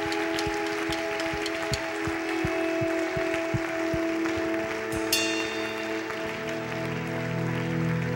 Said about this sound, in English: Let's give these people a round of applause because they're absolutely amazing.